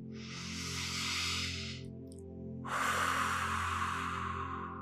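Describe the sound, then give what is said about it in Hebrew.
Two long, deep, airy breaths, in through the nose and out through the mouth, one after another with a short pause between, sounding slow and calming over a soft, steady low musical drone. No one speaks. “אז בואו ככה תמצאו לעצמכם תנוחה נוחה, וקחו כמה נשימות עמוקות ומרגיעות.”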